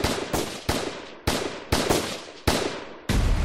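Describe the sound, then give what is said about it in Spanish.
A rapid, uneven volley of loud gunshots from a shotgun and other guns in the auditorium of the Audubon Ballroom in Manhattan, about eight sharp cracks each trailing a brief echoing decay, fired close together with no voices heard. “Mientras él hablaba, algo irrumpió en el auditorio: unos gritos y un disparo.”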